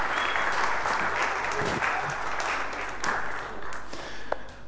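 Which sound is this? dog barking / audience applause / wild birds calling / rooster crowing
audience applause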